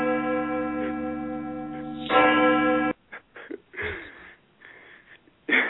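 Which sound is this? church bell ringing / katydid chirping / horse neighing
church bell ringing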